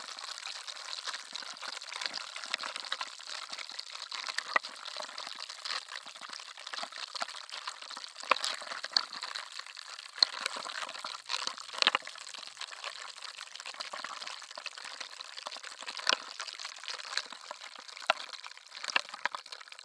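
Carbonated water fizzing, a steady bright hiss of tiny popping bubbles with occasional sharper crackles, continuous for the whole stretch with no talking.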